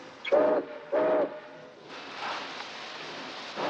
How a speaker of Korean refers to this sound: 셰크의 화물열차 19호는 포틀란드를 향해 다시 출발하고 넘버원은 자신이 다시 이 열차에 탄다고 예고합니다.